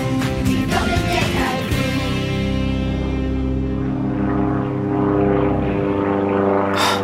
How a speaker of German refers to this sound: Da kommt der Flieger. Ich halte drauf.